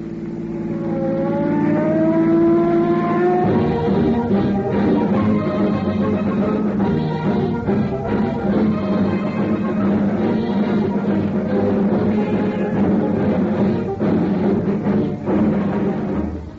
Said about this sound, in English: On the busiest street of the West's largest city, streams of traffic speed endlessly by.